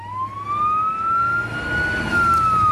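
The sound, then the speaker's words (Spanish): An ambulance siren wails steadily with a slowly rising and falling tone, loud, over the low rumble of engine and traffic noise, with no one speaking. “Cuando escuchamos este sonido, el sonido de una ambulancia, lo lógico es pensar que algo grave ha pasado.”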